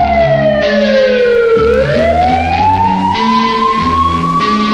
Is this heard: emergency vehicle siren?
yes